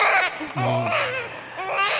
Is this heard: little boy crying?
yes